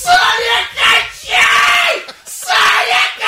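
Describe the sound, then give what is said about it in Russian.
A voice imitates a spectator's frantic yelling at a televised boxing match: four loud, strained shouts in quick succession, each rising and breaking off with brief gaps between. “Там сел какой-то человек сумасшедший. Ему, видимо, плохо было. Он там кричал, вот так, кричал там.”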